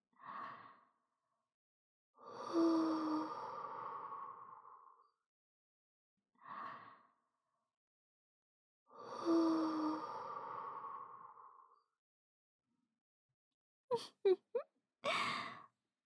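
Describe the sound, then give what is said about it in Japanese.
Two slow cycles of a quick inhale followed by a long, soft, breathy exhale blown onto the listener's face, carrying a faint voiced hum, then a few brief clicks and a short puff at the end; no talking. “男の子をエッチな気持ちにさせる魔力が溶け込んだ私の甘い吐息。どうですか？お顔に吹きかけられただけで、とろけちゃいそうなんですね。”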